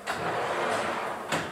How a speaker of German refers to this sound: Ich fahre Ihnen jetzt mal den Drucktisch raus.